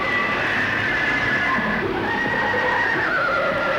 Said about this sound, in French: Les chevaux tombent. Un mouton est traîné dans le torrent. Un cheval tombe avec son cavalier.